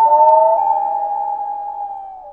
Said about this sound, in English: That's the loon. That's the common loon. That's a beloved bird of people in the northern states, New England and northern Minnesota and Michigan and places like that, and up through Canada. It's one of their calls.